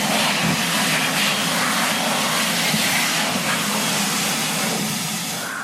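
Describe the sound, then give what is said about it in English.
A hand dryer blows a steady, loud rush of air, a broad whooshing roar that holds evenly for several seconds and eases slightly near the end, with no voices. “Ya, hand dryer atau pengering tangan.”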